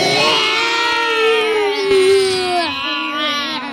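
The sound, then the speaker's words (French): A beast's terrible, blood-chilling scream in a swimming pool as a lifeguard's pole is thrown into its mouth: one loud, sustained, wailing howl with rich harmonics, its pitch wavering and dipping over nearly four seconds with no talking. “C'était un hurlement terrible qui glaçait le sang.”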